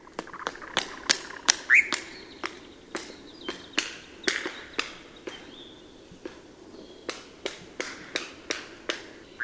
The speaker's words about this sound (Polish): Ważną częścią zalotów lelków jest klaskanie skrzydłami. Podobny głos wydają często startujące gołębie.